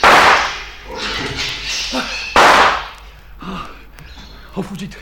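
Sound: gunshots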